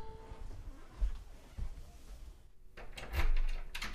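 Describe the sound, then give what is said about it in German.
A few soft thumps, then a rattle and shuffling noise ending in a sharp click as a door is opened to let someone in. No one speaks. “Geh zur Tür, ich lass dich rein.”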